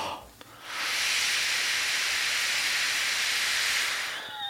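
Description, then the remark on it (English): A long, steady breath blown hard into a breathalyzer, a loud even hiss lasting several seconds, followed by a faint electronic tone as the blowing stops. “The breathing into it is killing me.”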